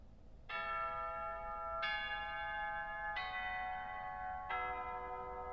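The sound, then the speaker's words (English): A school bell chime rings out four sustained, evenly spaced tones, each note ringing on until the next begins, clear and fairly loud with no voices, marking the start of afternoon classes at school. “The bell rings and afternoon classes begin.”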